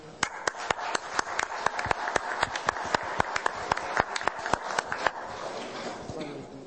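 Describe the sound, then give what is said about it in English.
An audience applauds for the hosts, with dense, sharp claps in a steady burst for about five seconds before the clapping thins out and fades away. “I think we should give a big applause to our hosts.”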